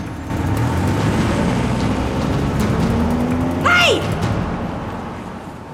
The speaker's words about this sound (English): They've loaded a box into a white van, then driven off. A respectable man gets into an expensive car and follows them, glancing at Alex.